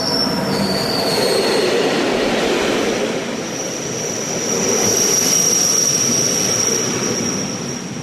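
A train rumbles steadily along the rails as it winds down the valley into Bergün station and comes to a stop, its wheels letting out a high, drawn-out squeal, loud and continuous, with no voices.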